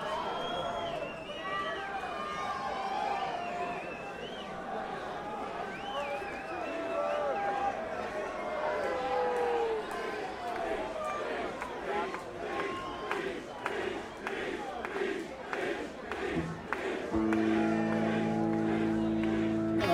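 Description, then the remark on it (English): A large crowd shouts and cheers in a loud, dense roar of overlapping voices. Rhythmic bursts of noise pulse through the middle, and a steady low drone enters near the end. “Listen to the crowd, but when you drop a fucking one large, we're gonna listen.”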